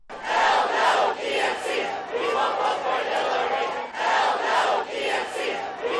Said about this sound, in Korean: 또 어제 성난 샌더스 지지자 수백 명이 전당대회장 밖에서 시위를 벌였는데요. 클린턴 후보를 절대 지지하지 않겠다는 구호를 외치기도 했습니다.